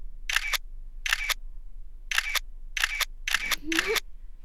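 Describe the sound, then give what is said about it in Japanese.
Crisp camera shutter clicks fire in about six short bursts at uneven intervals, with a faint murmur of a voice near the end. “言葉がなくてもシャッター音が雄弁に教えてくれました。”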